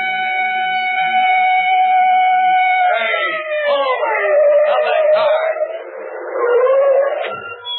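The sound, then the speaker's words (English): A police car siren from behind a car holds a loud, steady tone, then drops and wavers up and down as a busier mix of sounds crowds in around it. “that siren. It's a police car behind us.”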